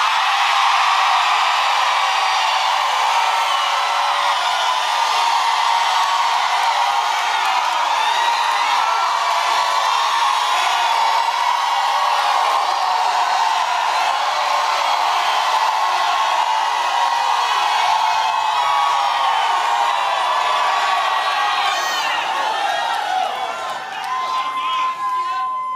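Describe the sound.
A large crowd at a sermon screams and cheers continuously, many voices merging into a loud, sustained roar with scattered high whoops, holding steady for the whole stretch before easing slightly near the end.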